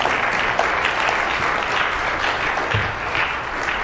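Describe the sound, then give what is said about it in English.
An audience claps their hands together for the Lord in the morning, in steady, dense applause that holds at an even loudness for several seconds, with no voices rising above it. “Let's give the Lord a hand clap here this morning.”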